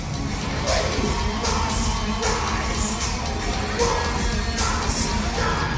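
A concert crowd at the National Theater in Richmond, Virginia roars steadily as fake blood sprays over the audience, with scattered yells and whoops rising out of the din in loud, irregular bursts across the whole stretch.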